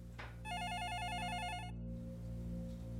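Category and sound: household object, landline telephone ringing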